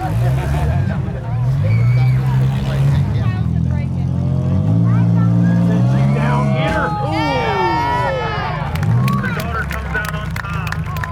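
Loud car engines roar and rev throughout at a demolition derby, their pitch rising and dropping in surges, while a crowd's chatter and shouts mix in underneath.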